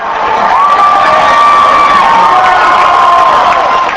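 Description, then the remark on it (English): A large crowd cheers and shouts loudly and steadily at a Milwaukee hotel, celebrating Senator Obama clinching the presidency, with high whoops and voices rising above a dense roar of celebration that holds for the whole stretch. “When Senator Obama clinched the presidency last night, it touched off a loud celebration at a Milwaukee hotel.”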